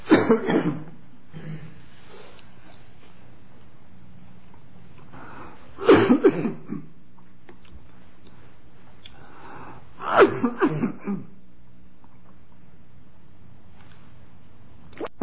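A person pausing a Bible reading coughs in three separate fits of harsh coughing, each a short cluster of bursts, spaced several seconds apart with quiet in between, fairly loud.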